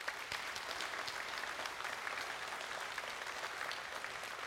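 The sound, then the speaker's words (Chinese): A church audience claps steadily to welcome a missionary preacher and his wife, a dense, continuous patter of many hands at an even level, with no one talking over it, lasting the whole moment. “让我们来欢迎他们，我们一起来鼓掌好不好？”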